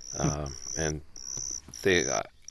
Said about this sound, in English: A lot of the tree crickets and ground crickets sing a pure toned song. There are a few species of those that are very pleasing.